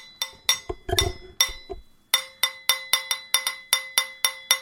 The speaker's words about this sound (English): Nina's going to play something on with a cheese knife and a wine glass because we are classy.